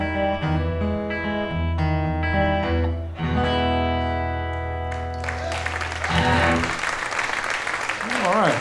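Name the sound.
audience applause and cheering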